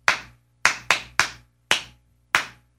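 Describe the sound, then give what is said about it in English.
Six sharp hand claps ring out on their own in an uneven rhythm, a quick cluster of three followed by slower, irregular gaps, each crisp and bright over a faint low hum. “It was the right amount of claps.”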